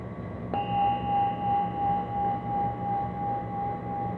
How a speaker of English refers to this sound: And when I ring the bell, take a drink.